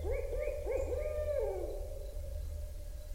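A bird sings at dawn by the Mississippi River, a quick run of four or five rising, hooting notes over about a second and a half, then falls quiet, leaving a low, steady background rumble.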